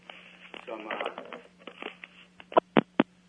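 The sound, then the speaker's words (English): Three short electronic beeps from a cordless phone handset with low batteries, evenly spaced and fairly loud, following a stretch of muffled, band-limited talking and handling noise over a steady low hum. “I keep switching the these phone. These batteries are getting.”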